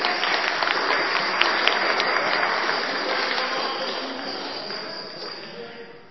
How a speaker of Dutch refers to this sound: Daar klappen we ook nog even voor.